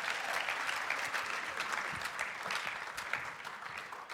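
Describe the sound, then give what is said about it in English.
Sustained audience applause, a dense crackle of many hands clapping at an even, steady level for several seconds with no voices standing out. “Give these guys a round of applause, you guys.”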